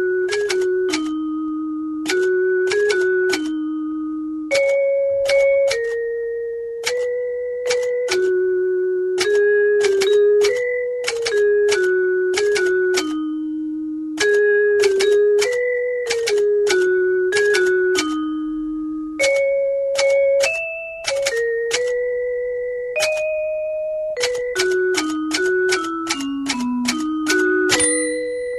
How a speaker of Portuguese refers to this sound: É um concerto de Natal para máquina de escrever e vibrafone.